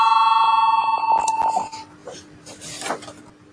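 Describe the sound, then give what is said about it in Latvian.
A parliament chamber bell rings before a vote on a proposal, a loud, steady bell with a bright, metallic buzzing tone for nearly two seconds, then cuts off, leaving faint murmuring and shuffling noises. “Lūdzu, zvanu, balsosim par 12.”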